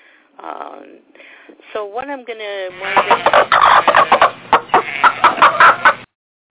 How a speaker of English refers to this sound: Okay. That was Esther. She just popped in, my rubber chicken, popped in to say hello to everybody.